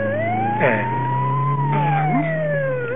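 An ambulance siren wails loudly and steadily, its pitch slowly rising then sinking as it passes, with a low engine rumble droning underneath; it is the fourth ambulance in half an hour.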